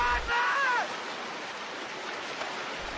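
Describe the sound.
Steady, loud rush of flowing river water fills the whole recording, with a brief wavering voice-like cry near the start before the churning water continues alone.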